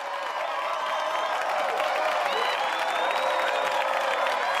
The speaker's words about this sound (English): The crowd claps and jumps.